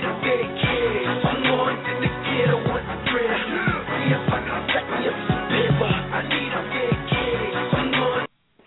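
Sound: telephone hold music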